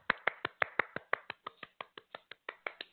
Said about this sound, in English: I did the clapping, everybody, because producer JP / co-host did not put the clap. No, I'll clap.